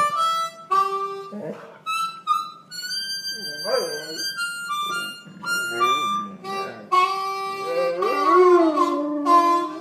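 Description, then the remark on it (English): A service dog named Norm howls along with sustained, bright instrumental notes played as a duet, its wavering, rising-and-falling howls coming in several bursts and growing fuller toward the end. “And that is your assistance dog, or as you call it, your service dog.”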